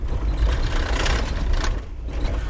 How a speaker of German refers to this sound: Es scheppert und kracht bei der Fahrt über das Pflaster. Die lockeren Armaturen des VW-Bulli übertönen jedes Gespräch.